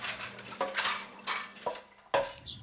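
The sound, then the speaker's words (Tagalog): Dishes and cutlery clink and clatter against each other in several sharp bursts, like plates, glasses and utensils being handled while washing up after a meal. No one speaks. “Halimbawa, pagligo, pagdudumi, paghuhugas ng mga pinagkainan.”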